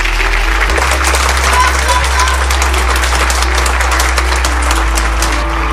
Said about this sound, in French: J'ai une tradition dans mon monde quand on réussit une activité. Vous pouvez vous applaudir.